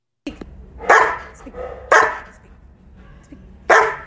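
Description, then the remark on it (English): A German Shepherd gives three loud, deep barks with uneven gaps between them, each a sharp burst that trails off, over a low rumbling background. “German Shepherds are just great dogs, and they've got really, really big, deep barks.”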